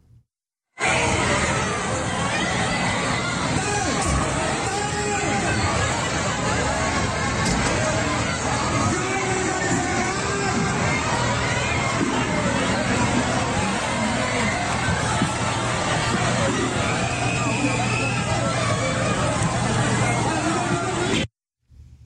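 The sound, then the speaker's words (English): A large crowd gathered in front of a vaccination facility in Indonesia makes a dense, steady roar of overlapping voices and commotion for about twenty seconds, loud and unbroken as people surge through the opened gates. “There was one facility that was vaccinating people, and so a giant crowd gathered right in front of the building.”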